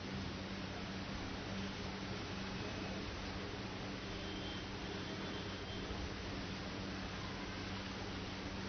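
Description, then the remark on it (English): Falling water in the holy sanctuary of the temple of Shri Radha Gopinath pours in a steady, unbroken rush of hiss, holding an even level throughout with a faint low hum beneath it and no voices. “The beautiful and sweet sound of the fallen water.”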